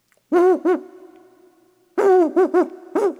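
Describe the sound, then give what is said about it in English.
An owl hoots loudly, a quick double hoot followed by a pause, then a longer rhythmic series of four hoots, with no voices present. “But it is a voice fit only for those who fly in the night with soft wings like me.”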